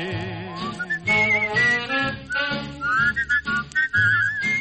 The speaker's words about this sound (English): you and …, sing and whistle together